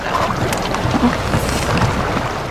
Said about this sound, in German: Kann das nicht mal aufhören? An Schlaf ist nicht zu denken. Wahnsinn. Die Wellen sind nicht auszuhalten.